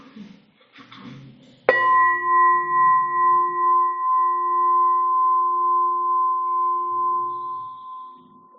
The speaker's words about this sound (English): We're going to start with ringing the bell once, and we'll end with ringing the bell three times.